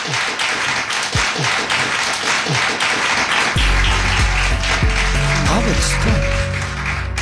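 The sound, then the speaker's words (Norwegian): A crowd applauds with steady, dense clapping that fills the whole stretch. Partway through, low music swells in underneath while the clapping carries on. “Ok, da tar vi en applaus for den.”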